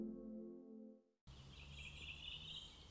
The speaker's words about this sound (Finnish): Linnut laulavat kauniisti. Olemme Nastolan hautausmaalla itse asiassa ensi kertaa täällä ja Uurnalehdossa.